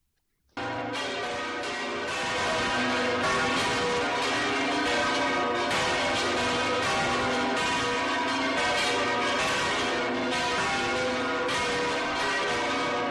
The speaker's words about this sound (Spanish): Mira, además escuchamos las campanas de la catedral desde dentro.